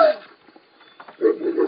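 A video game wolf growls when attacked: a sharp snarl at the start, a brief lull, then a rougher, sustained growl rising near the end, moderately loud with no talking.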